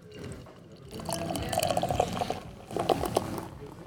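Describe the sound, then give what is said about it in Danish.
Beer glugs and splashes steadily into a glass, two bursts of pouring with a brief pause between, bubbling and trickling throughout. “Nu hælder jeg den her op til dig.”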